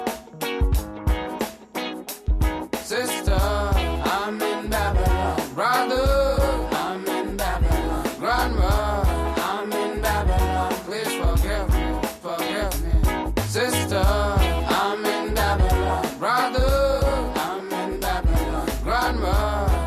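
A recorded song plays loudly and continuously, with a steady bass beat, layered instruments and melodic singing running throughout, briefly thinning out near the start before the full mix returns.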